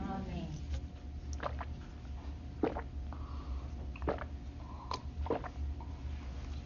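A person drinks water during a talk, with a few soft gulps and swallows spaced a second or so apart over a low, steady background rumble.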